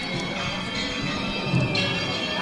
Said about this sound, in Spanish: Bueno, pues seguimos escuchando esas campanas,